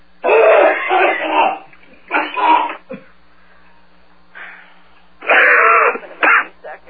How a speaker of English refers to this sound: Terrible coughing.